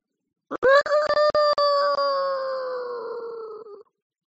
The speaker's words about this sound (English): Of a big old rooster crowing at 6 o'clock at daybreak in the morning.